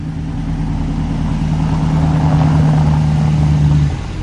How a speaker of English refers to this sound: Elsewhere, a black luxury car parks in a driveway.